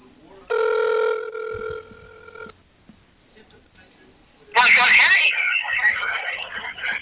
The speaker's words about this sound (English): Well, just call his cell phone. All right, I'm calling him now.